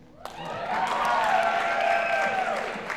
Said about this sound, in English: They're applauding because we're finishing up? No! Because it's some Irish?